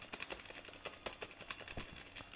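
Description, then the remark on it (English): Rapid, irregular clacking of keys being typed on a keyboard, a steady stream of small sharp clicks at fairly low volume, with no voices. “And I'm and I'm hitting keys. Now, can you hear that?”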